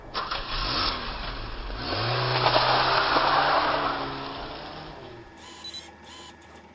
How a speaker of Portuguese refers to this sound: Eu arrasto ele pro banco do carona, dou a volta e vejo se o carro arranca.